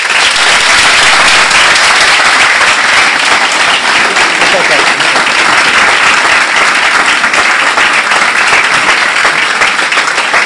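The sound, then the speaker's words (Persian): A crowd applauds loudly and steadily for the whole stretch, a dense wash of many hands clapping at once with no pauses or single claps standing out. “خودتون تشویق کنید، مخصوصا مهندسا.”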